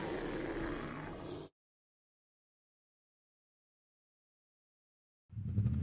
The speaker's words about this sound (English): Even parked, you can hear the 2024 Toyota Tacoma's powerful engine. Ultra-responsive torque.